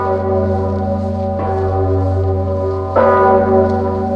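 The large, deep Zygmunt Bell in Kraków, Poland, tolls loudly and slowly after the death of Pope John Paul II, two strikes a second and a half apart, each leaving a long, rich humming resonance that sustains between strokes. No voices are present.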